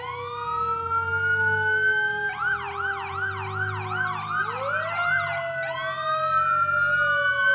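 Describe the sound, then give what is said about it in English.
Several emergency sirens blare together at a solemn ceremony marking the 17th anniversary of the September 11th terrorist attacks on an overcast morning: steady wailing tones overlapped by a fast rising-and-falling yelp that starts partway through, loud and sustained over a low rumble, with no talking. “On an overcast morning, the solemn ceremony included the sounding of emergency sirens.”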